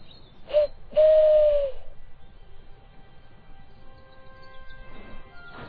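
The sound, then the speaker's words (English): A person whistles to call a horse named Joey: two low, hollow whistled notes, a short blip, then a longer sustained tone that sags slightly at the end, almost like an owl's hoot, followed by quiet background. “Now call him, whistle.”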